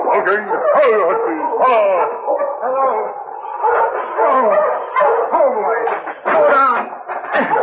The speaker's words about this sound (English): He barked a warning to his master when he saw the team heading toward them.